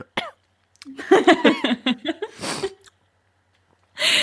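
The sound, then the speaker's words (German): A voice imitates the quiet, muffled coughing of a silent audience in a short burst, followed by a breathy huff and a brief noisy exhale after a pause, fairly soft. “Vor allem, das wird ja manchmal so in Filmen so mit reingeschnitten, einfach dieses leise Husten von einem stillen Publikum.”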